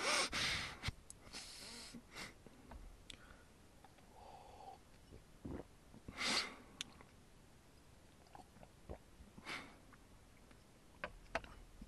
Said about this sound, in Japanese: ごめんなさい、おじさんが一人でビールをごくごくスンスン言いながら飲んでるというひどいラジオになってますが